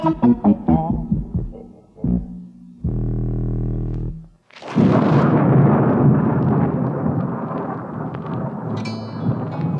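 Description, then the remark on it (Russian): A short stretch of music breaks off into a loud, sudden thunderclap that rolls on as a heavy, sustained, booming rumble of thunder in a fierce evening storm with lightning and pouring rain, with no voices. “Гремел гром, сверкала молния, дождь лил, как из ведра.”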